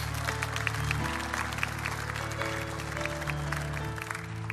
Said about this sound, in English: Let's give our first-time guests a big hand clap tonight. Amen?